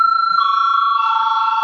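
A parliament chamber's voting bell rings in one loud, unbroken electric tone with a bright, buzzing edge, holding steady for the whole stretch with no voices over it. It is rung to call a vote on a bill in its first reading.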